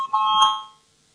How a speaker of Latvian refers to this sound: Lūdzu zvanu, balsosim par otro juridiskās komisijas priekšlikumu. Lūdzu balsosim.